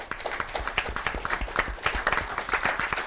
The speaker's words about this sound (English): So please join me in a round of applause for everybody.